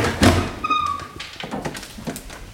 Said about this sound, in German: Jetzt sind wir im historischen Bereich. Hier knarzen auch die Türen, das dürfen Sie auch. Das gehört dazu.